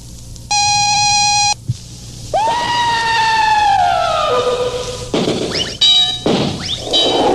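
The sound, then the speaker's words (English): A radio station's automatic time tone marking 6 o'clock, Biscayne Federal time: a steady, high electronic beep holds for about a second, then swooping synthesized tones slide downward, with another brief beep near the end. No one speaks. “At the automatic tone, 6 o'clock, Biscayne Federal time.”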